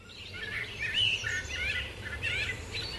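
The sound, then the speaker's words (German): Several birds chirp and trill in overlapping bursts of high, warbling song, steady throughout, with a low rumbling background underneath and no voices. “Ist bei Ihnen vor der Haustür zufällig auch gerade Vogelgesang zu hören, so wie wir es hier einspielen?”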